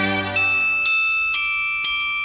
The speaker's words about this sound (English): Ooh, it's time for me to play. Here I go. That was me. Wasn't I good? Boy, I love playing the bells.